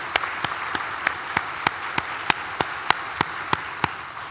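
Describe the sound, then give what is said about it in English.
Audience applause for the speakers at a CNI meeting, a steady wash of clapping with one sharp, evenly spaced clap cutting through about three times a second. Nobody speaks. “So please join me in a round of applause for our speakers.”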